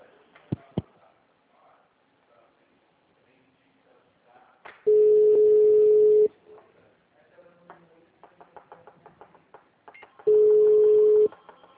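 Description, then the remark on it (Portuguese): Steady telephone line tones while a call is transferred back to the city hall switchboard operator: two long, loud, flat beeps at a fixed mid pitch, each about a second and a half, separated by faint clicks and muffled line noise. “Vou te voltar na telefonista, tá?”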